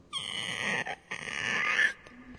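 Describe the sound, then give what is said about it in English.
A voice imitates a creaking door as a live Foley sound effect, with a high, strained, squeaky drone that stretches for almost two seconds, briefly breaking once partway through before trailing off. “That was my attempt at live Foley sound effects, but it didn't quite sound like a creaky door.”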